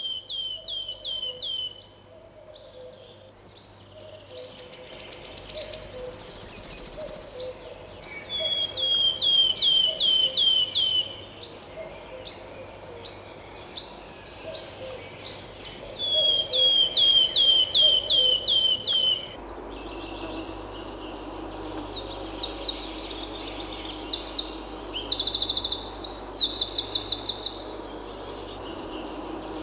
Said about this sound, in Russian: «Пеночка-трещотка». Для трещотки еще характерен звонкий печальный свист.